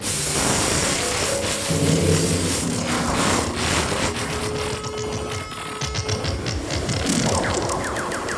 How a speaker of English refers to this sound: Do you hear that noise? I said, do you hear that noise? There it goes again. You hear it? That awful interference wrecking your orgasm on the Playboy Channel.